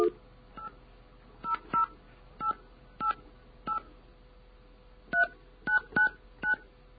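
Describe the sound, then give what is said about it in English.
A series of touch-tone beeps as a phone number is dialed, about a dozen short dual-pitch tones in irregular bursts over a faint hum, with no talking. “Okay, we have a phone call we have to make real quick, then we're going to take phone calls.”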